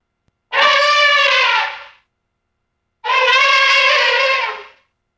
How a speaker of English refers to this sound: Elephant.